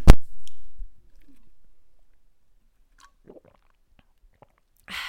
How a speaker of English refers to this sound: And if you guys haven't tried these Unwell hydration drinks, what are they called? Rapid Hydration Focus. This is the mango citrus. It's phenomenal. Sorry, I'm gonna take a sip.